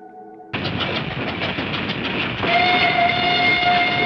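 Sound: train running on rails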